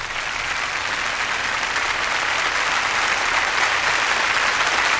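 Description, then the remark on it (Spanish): Sustained applause from a concert audience as Sir Georg Scholti comes on stage to conduct the London Symphony Orchestra in the overture to Borodin's opera Prince Igor. A dense, steady wash of clapping hands holds at an even, fairly loud level throughout with no voices. “Los aplausos del público son para Sir Georg Scholti, quien ha salido al escenario para ponerse al frente de la Orquesta Sinfónica de Londres y dirigir la interpretación de la obertura de la ópera El Príncipe Igor de Alexander Borodín.”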